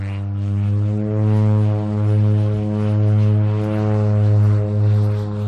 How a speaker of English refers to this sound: I've joined Zwali and Stefan in a ski-equipped prop airplane.